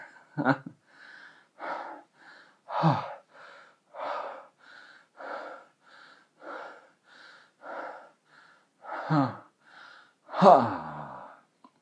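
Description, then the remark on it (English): A series of loud, rhythmic breaths and sharp inhales, ending in an exaggerated, drawn-out gasp that rises and falls in pitch. No speech. “That last gasp was a bit overacted.”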